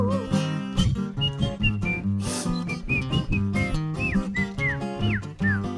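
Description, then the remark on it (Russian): A bright whistled melody of short sliding notes plays over a steady, full instrumental accompaniment, staying clear and prominent throughout with no one speaking. “Ёжик резиновый шёл и насвистывал дырочкой в правом боку.”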